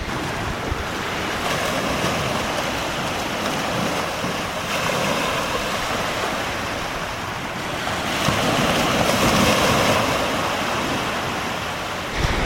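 Ocean waves wash steadily onto the shore in a broad, continuous roar, swelling louder toward the end, with some wind noise and no voices.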